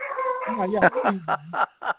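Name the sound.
dog barking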